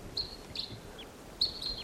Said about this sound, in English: A bird coming in here. Decoys calling there. Crossbills, several wild birds around the perimeter of this little gulch calling.